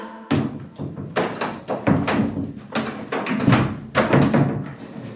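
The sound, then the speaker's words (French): An office door is pushed repeatedly without catching shut, giving a series of dull thuds and knocks, about eight over a few seconds, fairly loud with faint rattling in between. “On essaie de fermer la porte et on n'y arrive pas.”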